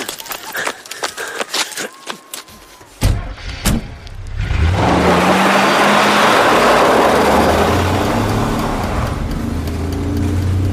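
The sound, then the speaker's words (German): A burst of clicks and knocks ends in a heavy thud, then a car engine roars up and keeps accelerating, its loud, steady rumble rising slightly in pitch as the car speeds away. “Gib Gas! Ich fahr so schnell ich kann!”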